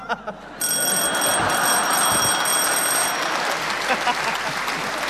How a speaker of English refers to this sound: you came in first with your buzzer there.